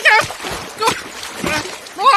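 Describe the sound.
A couple of sharp water splashes burst out, separated by short pauses, while a voice exclaims at the start and end.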